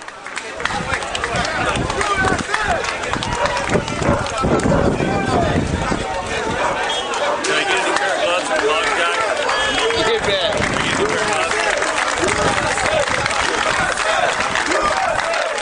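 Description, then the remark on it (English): A large crowd shouts and chants "USA, USA" together in the streets of Port-au-Prince, Haiti, after a Los Angeles rescue team pulls up a survivor, a dense, loud wall of overlapping voices that stays steady from start to finish, with no single voice standing out. “And you hear the shouts, the chant of USA, USA in the streets behind there in Port-au-Prince.”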